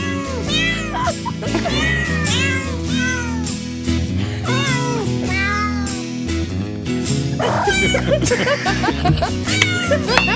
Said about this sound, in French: Voici … avec Silent Night.